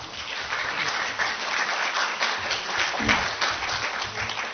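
A crowd applauds steadily, many hands clapping in a dense, continuous wash of sound that holds at a fairly even level for several seconds, with no one speaking over it.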